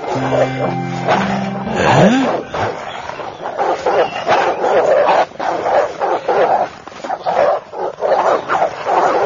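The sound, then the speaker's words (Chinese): A pack of dogs barks and yelps in a loud, overlapping chorus that never lets up, with a few high whines rising early on before the noise thickens into continuous barking. “您看这些狗，昨天没有啊，哪来的？”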